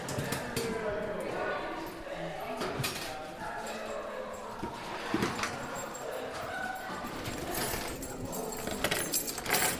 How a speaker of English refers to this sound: That's the keys to the box. I should be the only person having this key.